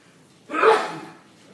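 A single sneeze bursts out in a sharp, breathy rush that fades within about half a second, moderately loud, with quiet before and after and no talking.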